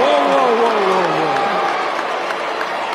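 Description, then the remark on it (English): A dense crowd boos and jeers loudly and steadily as Kim Kardashian appears on stage to roast Tom Brady at a live Netflix roast. Drawn-out falling voices rise above a constant wash of noise from the audience for the whole stretch. “Netflix edited out the jeers from their streaming version.”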